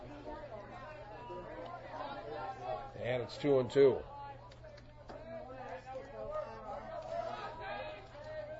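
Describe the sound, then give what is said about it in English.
Steady crowd chatter fills a ballpark during a Miners baseball game, a dense murmur of many voices with a brief louder swell of cheering midway; a man's voice speaks briefly over it. “Good crowd on here to out here to watch this one.”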